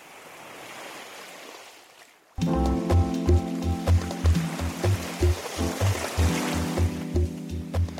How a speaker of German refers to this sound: Und die Wellen der Ostsee plätschern dahin wie eh und je.